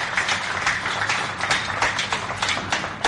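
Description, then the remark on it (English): A crowd applauds with dense, steady clapping, a continuous crackle of many hands with no voices standing out, holding fairly loud and even throughout. “We should all applaud the excellences here for being with us today.”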